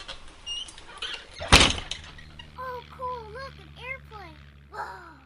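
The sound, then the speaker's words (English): A door shuts with a single loud thud amid soft background noise, and then people start talking quietly. “… and I are going to record, so y'all go ahead and shut the door.”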